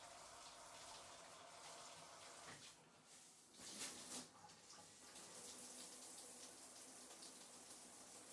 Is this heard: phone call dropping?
no